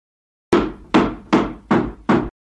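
Five loud, hard blows of a hammer striking a wooden table to flatten a bump in it, evenly spaced in a steady rhythm, each a sharp thud with a brief ringing decay.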